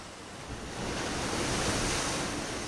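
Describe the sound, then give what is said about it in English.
Ocean waves wash steadily onto a beach, a broad, rushing roar that swells slightly after the first half-second and holds, with some wind noise mixed in and no voices. “There's something about the power of the ocean, and I can't help but think about those people who marched 300 or 400 miles from inland, who maybe had never actually been to the coast but would have heard about the beach.”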